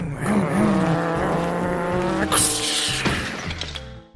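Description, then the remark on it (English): Racing car engines whine and rev loudly with screeching tires, then a sudden crash-like burst hits midway, and the roar continues before a sharp impact right at the end. “All right, let's race our cars into each other.”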